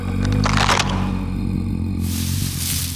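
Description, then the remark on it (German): Twigs crack and snap in the undergrowth in the dark over a low, steady growl, with a burst of crackling early on and a rougher rustling hiss taking over toward the end. “In diesem Moment ertönten aus dem Unterholz wieder dieses Knacken und Knurren.”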